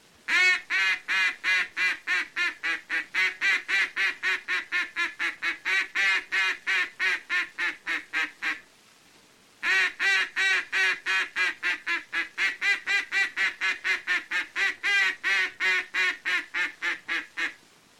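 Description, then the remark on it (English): A duck call blown in a long greeting call sequence, meant for ducks at quite some distance away: two extended runs of loud, rapid, evenly paced quacks, separated by a brief pause, clear with no talking. “Now, the first call to use is the long call or greeting call, and should be made only to ducks at quite some distance away, but should never be given when the ducks are in close.”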